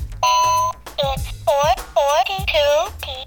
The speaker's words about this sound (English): talking clocks, which reminds me of the loudest talking clock I ever made.